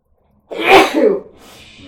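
A single loud, close sneeze bursts out after a moment of silence, a sharp breathy explosion that trails off into a soft, fading exhale.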